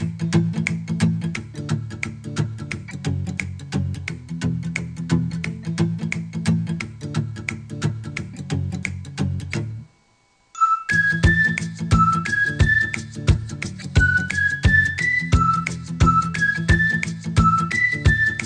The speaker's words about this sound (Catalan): Bé, doncs aquesta melodia xiulada és la que ens porta pas a l'agenda musical del cap de setmana